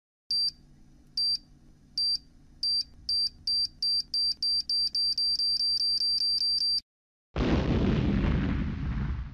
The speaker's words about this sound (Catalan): Va trobar totes les peces que necessitaven i quan va encendre la màquina, va explotar!